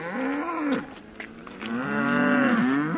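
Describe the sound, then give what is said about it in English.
Two long, loud moos from Charolais cows on a farm just outside Saumur, France: the first rises then falls off, and the second is a deeper, sustained bellow after a brief pause. No talking. “Michel Baudot raises Charolais cows on his farm just outside Saumur.”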